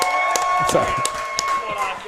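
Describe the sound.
A crowd cheers and claps steadily, with scattered sharp hand claps standing out over a dense wash of voices and noise filling the room.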